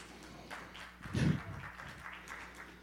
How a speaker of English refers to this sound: You should have gotten a louder applause than that, but I got you. They don't clap for me either, ever, so it's fine.